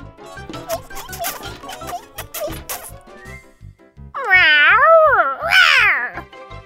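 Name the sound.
cat meowing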